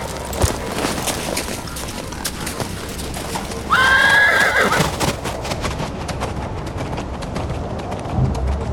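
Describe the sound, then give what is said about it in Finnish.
A horse carrying a rider on a windy, moonlit Christmas night gives one loud, wavering whinny partway through, while steady hooves clip-clop throughout against a noisy outdoor background. “Sanaakaan sanomatta hän nosti Kuudunen hevosen selkään taakse.”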